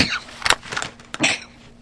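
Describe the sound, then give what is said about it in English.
A sneeze: two sharp, breathy bursts about three-quarters of a second apart, the second fuller and longer, over a faint low hum with no talking. “I'm just sneezing at all of this.”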